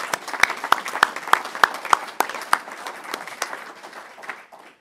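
An audience applauds, dense overlapping claps with a few sharp distinct hand claps standing out, holding steady before thinning and fading away by the end.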